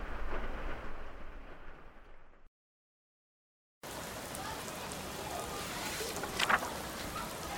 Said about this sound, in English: October 2nd, 1942. The rain continues.